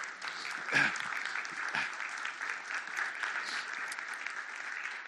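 A church audience applauds in a steady, dense wash of clapping that holds at an even level for about five seconds, with a slightly sharper burst near the start.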